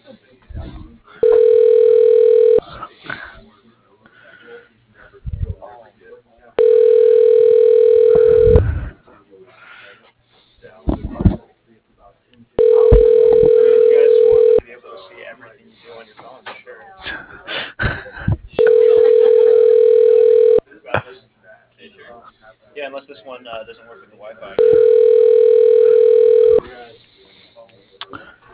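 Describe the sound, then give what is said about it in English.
A telephone rings over the line five times as a call is transferred to extension 106: steady, evenly spaced two-second ringback tones, fairly loud and thin, with quiet pauses and faint shuffling noise between rings. “It's ringing.”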